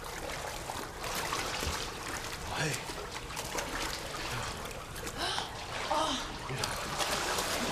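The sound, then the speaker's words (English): Steady sloshing and splashing of feet wading through ankle-deep water along a narrow walkway, continuous, with a voice briefly calling out over the watery movement. “Now they're wading through ankle-deep water on a narrow walkway.”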